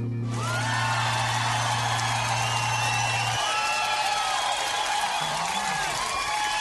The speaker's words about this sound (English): Our studio audience is giving a big round of applause there, because my special guest on Bent Notes tonight is a Ballarat-based vocalist and composer who's described as having a raw and honest approach to jazz